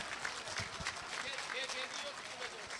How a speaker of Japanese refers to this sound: この美声に心から皆様の拍手をお送りください。ありがとうございました。